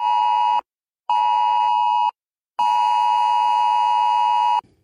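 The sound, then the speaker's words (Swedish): A harsh, steady electronic alert tone from a mobile phone, a danger warning from Sweden's SE-Alert warning system, sounds in three long bursts separated by short silences, the last burst the longest, loud with no voices. “Från och med 1 juli är det här ljudet från mobilen en direkt varning för fara.”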